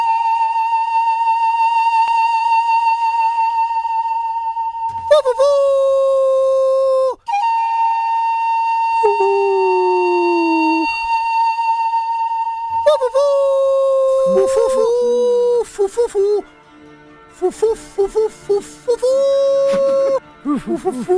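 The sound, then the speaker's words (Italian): A human voice howls in long, sustained, wavering tones that bend and slide in pitch, loud, before giving way to busier music with the howls continuing in shorter bursts. “C'è una parentela strettissima con l'ululato”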